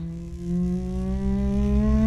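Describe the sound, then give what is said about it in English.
An engine revs up with a steady, droning hum that climbs slowly in pitch and grows louder over a couple of seconds. It is continuous, with no voices. “He starts, you know, something's clearly revving up.”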